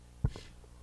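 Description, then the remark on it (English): A single abrupt sneeze bursts out, sharp and brief, followed by a short breathy trail before it falls quiet again. “Bless you.”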